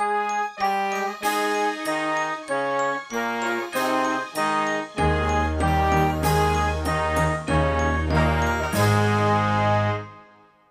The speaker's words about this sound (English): Number 38, Partner Songs Duet. You play White Choral Bells. You'll hear Vesper's song and the accompaniment on the recording.